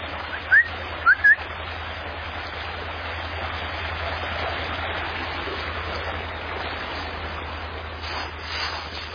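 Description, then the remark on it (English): A steady, continuous rush of creek water flowing past willow trees at the creek's edge fills the scene, with a few quick bird chirps near the start and no one talking. “I've got to cut back these willow trees, keep them at the edge of the creek.”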